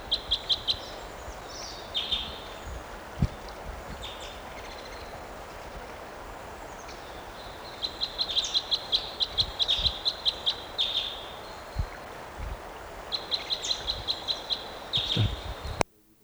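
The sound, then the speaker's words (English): High-pitched bird song, a type 5 song, comes in several bursts of rapid, buzzy trilled phrases, with longer runs in the second half, over a steady low background hiss and a few soft thumps. “Just collected that bird, it'll be 7:19.”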